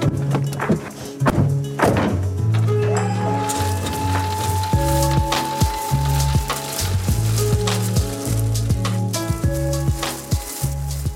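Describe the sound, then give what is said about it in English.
A truck's engine drones steadily while a hydraulic whine rises and holds, and loose wood chips tumble out with repeated dull thunks and thuds, loud and continuous throughout, as a delivery of wood chips for hot water and heating is unloaded from the truck at Felbrigg. “So I'm back at Felbrigg, and Mark, let's get these chips unloaded.”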